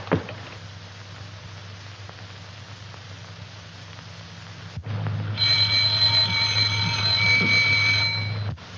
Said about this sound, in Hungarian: Csengettek.